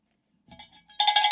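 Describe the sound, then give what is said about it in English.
A cowbell sound effect clanks a few times softly, then breaks into loud, rapid, metallic clanging that rings out alone, with no voices. “Darlene says that deserved a cowbell about Trump's aspiration and inspiration.”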